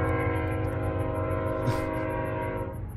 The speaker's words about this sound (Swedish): Hör ni det, eller? De här tågvisslorna. Det är helt vansinnigt. De här tågen som är här.